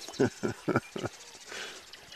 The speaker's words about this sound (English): Cranes slowly bob through the shallow waters. Mallards skim across marshes, grasslands, and sagebrush. We obviously have an unhappy duck over there. I can't even count the number of different birds here. Just continuous noise.